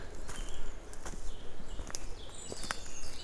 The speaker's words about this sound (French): quelques oiseaux nous accueillent.